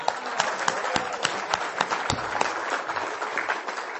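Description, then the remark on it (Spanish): Steady applause from an audience at an Alcoholics Anonymous gathering, welcoming a woman who has stood up: many hands clapping in a dense, continuous patter with a few sharper individual claps standing out, sustained for several seconds with no talking. “¿Le podemos brindar un aplauso, por favor?”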